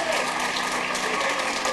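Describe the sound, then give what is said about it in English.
An audience claps steadily for a performer after a gospel song, a dense, even wash of many hands applauding at constant loudness with no pauses, filling the whole moment without any voices standing out. “Can you give him a hand?”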